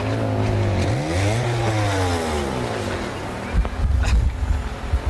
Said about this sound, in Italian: A un certo punto passava lì una macchina, un motorino, non so, c'era un rumore